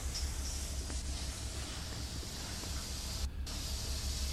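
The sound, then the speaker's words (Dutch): Loud, steady steam hisses continuously as the engine of a Scheveningen cutter is started with compressed air at 17 atmospheres, over a low rumbling undertone, with one brief dip in the hiss near the end. No one speaks. “als de motoren starten, komt het stoom uit. En dat is een enorme herrie maakt.”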